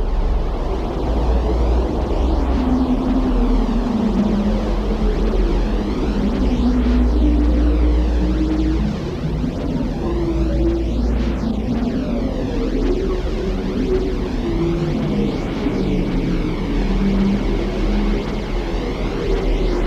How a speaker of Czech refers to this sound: Posloucháme nahrávku americké NASA. Je to nahrávka vesmírných šumů, radiových a kosmických záření, poněkud převedená do slyšitelného spektra, abychom slyšeli. Ale takhle nějak zní vesmír.